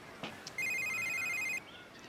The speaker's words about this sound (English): Dude, your phone, you gonna get that? Don't worry about it. It's probably just Peggy.